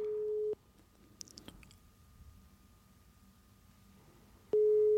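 A telephone ringback tone while calling: a steady mid-pitched electronic beep lasting about half a second, then a long quiet pause with a few faint clicks, then the tone starting again.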